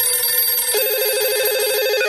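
A steady electronic telephone ring tone, warbling rapidly between two pitches, sounds clearly and continuously as a radio program connects by phone to a guest from the Astronomy Society Novi Sad, with no voices present.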